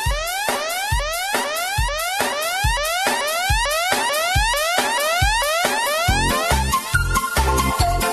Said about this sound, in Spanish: Por el túnel subfluvial un camión lleva bomberos. La sirena es tan chillona que despierta al tunelero.